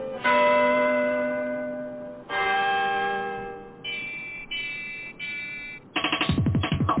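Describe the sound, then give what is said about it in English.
A short bumper jingle for Fakeologist Radio, made of bright, bell-like chimes: two long ringing tones, then a few shorter notes, ending in a quick burst of pulsing chords. No one speaks. “There's the new bump.”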